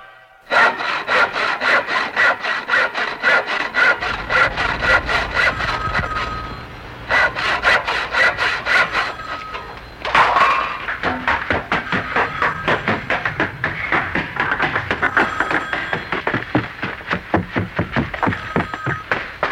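A hand saw cuts steadily through wood in a cellar home workshop, in quick, rhythmic back-and-forth strokes, loud, pausing briefly twice before resuming with a slightly different rasping tone.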